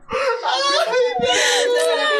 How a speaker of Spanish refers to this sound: Me dolió, está llorando ahorita.